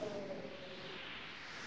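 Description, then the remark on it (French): A steady, loud rush of wind roars through the whole moment, a dense airy whoosh with a faint whistling tone at the start, and no voices. “Oh, ce vent!”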